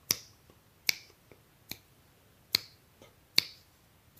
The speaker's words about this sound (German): Und an sich braucht man gar nicht viel, man braucht nur seinen Körper. Und man kann zum Beispiel mit Schnippen anfangen. So ein schöner Offbeat, geschnippt.